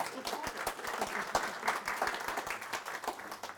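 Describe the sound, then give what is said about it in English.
A crowd applauds an engagement announcement, many hands clapping in a dense, continuous patter at a moderate, even level with no voices standing out. “And yes, it is at this time that it is appropriate to clap”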